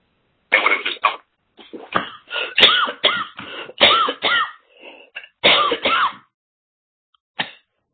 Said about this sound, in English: or is that somebody else coughing?